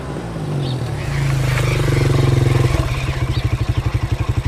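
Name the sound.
motorcycle engine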